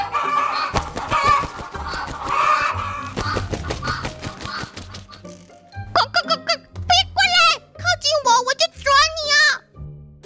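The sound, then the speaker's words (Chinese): A voice talks for the first few seconds, then chickens in cages break into loud, excited clucking and squawking, a burst of several rapid, wavering calls. “笼子里的鸡原本羽毛没有光彩，两只眼睛无神看着波给走过来，居然情绪激动了起来。”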